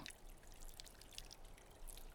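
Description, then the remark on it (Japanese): Soft, wet squishing and crackling of soapy lather being spread while washing someone, a continuous rustle with small bubbly pops scattered through it, fairly quiet and steady throughout. “泡を伸ばして、”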